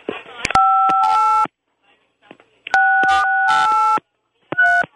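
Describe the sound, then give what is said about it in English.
Cell phone keypad tones sound in short bursts as four numbers are pressed, each a steady dual-pitch beep, arriving in three separate groups with brief silences between them, fairly loud. “If you can hear me, Dan, press 5 and 6.”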